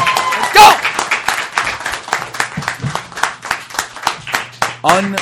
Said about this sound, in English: Yeah, come on. 10 to go. Let's clap it up for him. Let's go.